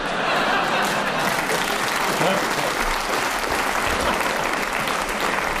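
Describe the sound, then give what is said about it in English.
Audience applause, a dense, steady wash of many hands clapping that stays loud and even for several seconds without letting up. “You've got to laugh the first time and a round of applause the second.”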